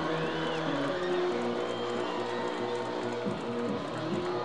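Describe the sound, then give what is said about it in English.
A large crowd at a baseball game at Chick Chansey Park on opening night roars steadily, cheering the Grizzlies, a dense wash of cheering and chatter that stays loud and unbroken, with faint tonal notes drifting through the din. “Great crowd on hand tonight here at Chick Chansey Park for opening night. And they're trying to cheer the Grizzlies to even this one up.”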